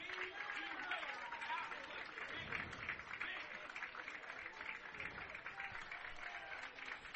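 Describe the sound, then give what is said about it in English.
A crowd from George Mason claps and cheers steadily for Connor Dykstra's home run for the Patriots, a soft continuous wash of applause with faint voices murmuring underneath. “You can hear the crowd from George Mason giving him a hand.”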